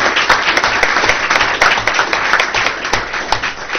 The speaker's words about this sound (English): Round of applause.